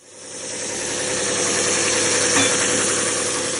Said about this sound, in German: In seiner kleinen Werkstatt in Marrakesch schleift Buchta Edouani eine Holzlamelle. Es ist eine von vielen, die am Ende gebogen und dann den Resonanzkörper der fertigen Laute bilden werden.